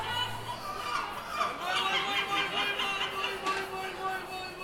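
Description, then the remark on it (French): A dense chorus of seagulls in Istanbul calling over one another, their harsh, wavering cries overlapping continuously against a steady background murmur. “Enfin, elle se termine avec des mouettes qui, de concert, écoutent et se moquent de leurs cousins humains.”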